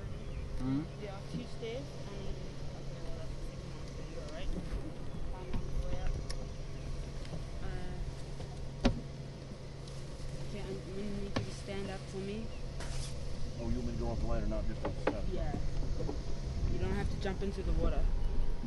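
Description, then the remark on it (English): A boat engine drones steadily throughout, a continuous low hum with buzzing overtones, even in loudness, while muffled voices come and go over it. “How many horsepower is this engine?”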